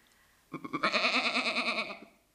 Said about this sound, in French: Ensuite, la chèvre qui appelle son chevreau.